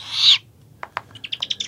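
A baby owl gives a short, raspy hissing screech, then a couple of sharp clicks and a quick run of high, chittering chirps, with no voices.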